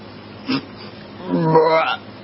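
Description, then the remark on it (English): A brief guttural hiccup-like sound, then a longer drawn-out burp with a croaking, rising pitch, loud with no talking over it. “I was trying to think, what is there about all of us that brings us together? And you know what it is? What? Burping.”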